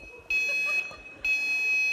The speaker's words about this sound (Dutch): En je hebt nog je piepstaafje bij. Want deze piepen ook bommetjes op.